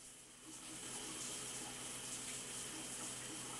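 Shower water runs in a bathroom in a steady, continuous rushing hiss, even in loudness from start to finish, with no voices.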